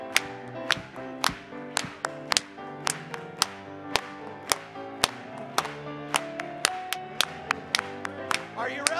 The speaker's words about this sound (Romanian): Hai să o aplaudăm lui astăzi.